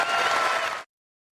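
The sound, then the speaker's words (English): A large outdoor crowd at the British Open golf tournament breaks into sustained applause and cheering, a dense wash of clapping that holds steady for under a second before cutting off abruptly into silence. “I'm obviously very biased, being from the U.S., but to see some of the best crowds I've ever seen out here, I look forward to making my trip every year to the British Open and see you guys cheer us on.”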